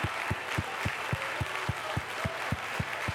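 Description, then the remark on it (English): A church audience claps hands in praise to God in a steady, even rhythm, about a dozen sharp unison claps over a continuous wash of crowd noise and voices. “I want you to just clap your hands, lift your voice, and give God some high praise.”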